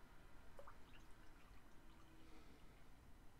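Coffee being poured into a cup, a soft, steady liquid stream with a few faint drips and splashes, heard quietly with no talking.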